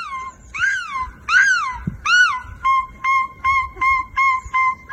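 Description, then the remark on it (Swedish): A woman's voice imitates seagull cries with three loud, drawn-out wailing calls that rise and fall, followed by a quick run of short, sharp gull-like yelps in a steady rhythm. “Men hon kan i alla helt fall låta som en mås.”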